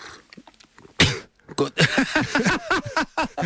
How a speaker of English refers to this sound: That went down the wrong way then. That was the longest delayed cough I've seen ever.